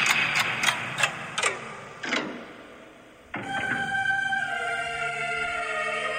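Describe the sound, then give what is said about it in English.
A loud clock ticking sound effect ticks several times over about three seconds, slowing slightly. After a brief hush, a sustained ringing, tonal sound takes over to the end. No voices. “It's time. The clock is running on Eric Bischoff.”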